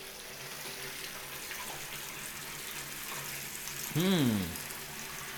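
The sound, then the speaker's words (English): A bathroom shower faucet behind a shower door runs steadily, a constant broad hiss of spraying water, interrupted near the end by a brief, loud, wavering squeal that rises and falls before the flow continues. “I'll just show you what one of these shower faucets sounds like in one of these shower doors.”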